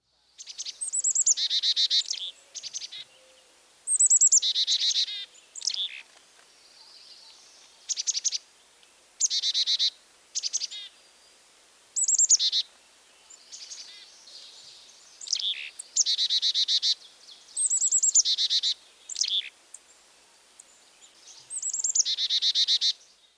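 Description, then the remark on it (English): A Carolina chickadee calls repeatedly, bursts of high, buzzy notes in quick chick-a-dee-dee phrases, clear, with brief pauses between each series and no other sounds. “Here's the call of the Carolina chickadee, which is similar, but higher pitched and faster.”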